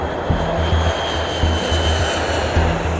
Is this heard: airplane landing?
yes